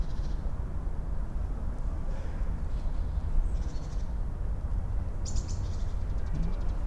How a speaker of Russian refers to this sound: Слышите, птичка? Только что щебетала.